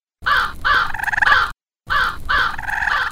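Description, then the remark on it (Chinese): A crow caws loudly in two bursts, each a quick run of harsh, raspy calls separated by a brief pause, with no voices around it; the crow is calling to wake a sleeping deer in the mountains. “当时九色鹿正系喺山里边瞓紧觉，佢嘅好朋友乌鸦即刻嚟叫醒佢啊！”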